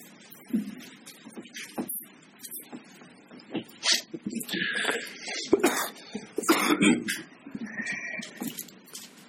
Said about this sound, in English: Sorry. Seems like when I do have to blow my nose, then that tickles my throat, and I suddenly have to cough. Certain things come in pairs, apparently. That's one of them that I don't care for.